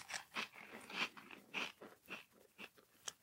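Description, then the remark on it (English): Crisp crunching as someone chews a dry snack, a steady run of about eight sharp bites and chews over a few seconds, with no talking. “I can hear you crunching.”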